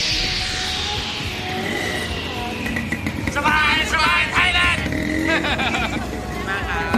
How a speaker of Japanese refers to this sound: サバイのジングルの中にもこのトゥクトゥクのエンジン音が入ったものがあります。ちょっと今日はそのジングル聞いていただきましょうかね。